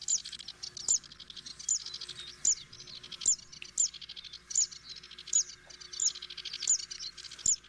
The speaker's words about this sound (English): The Zitting Cysticola is another widely distributed bird across Southern Europe, Africa, Southern Asia, and Northern Australia. It's a small warbler that is found mainly in grasslands.